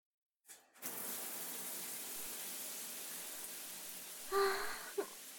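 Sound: shower water running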